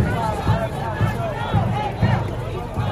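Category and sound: crowd, protest crowd yelling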